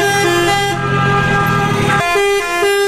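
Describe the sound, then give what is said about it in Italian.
Loud, overlapping blasts of truck air horns and car horns honk continuously, some long and sustained, others short toots, forming a dense chorus of street honking as dozens of trucks parade through the streets of Rome in a truckers' protest, slowing traffic. “Trombe, clacson, rallentamenti del traffico ma senza particolari disagi, accadeva lunedì scorso per le strade di Roma, animate per così dire da un carosello di decine di tir.”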